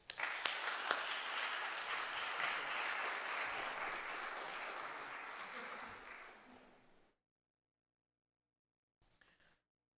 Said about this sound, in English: would you just join with me and clap for what God's going to do through him as Travis comes up